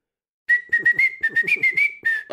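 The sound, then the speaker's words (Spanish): Someone whistles the theme tune of Todopoderosos, a short, bouncy melody, a quick run of clear notes with small pitch slides and audible breathy puffs between phrases, with no talking. “¿podrías, por favor, silbar el tema de Todopoderosos?”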